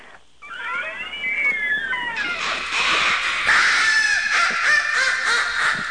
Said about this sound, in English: Was that the door? Yeah, sorry. Wow. I go ahead and put a little WD-40 on that hinge.